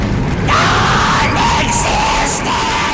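A loud, continuous rumbling as a room shakes in a video game while a voice lets out a long, sustained scream into the player's ear, the shaking and yelling blending into one harsh, unsettling wall of sound.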